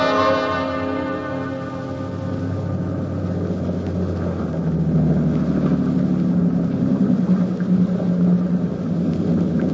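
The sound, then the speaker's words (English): A resonant bell-like ringing fades at the start as a boat's engines, run full ahead on all engines, roar up into a steady, heavy low rumble that churns on without a break. “Full ahead, all engines.”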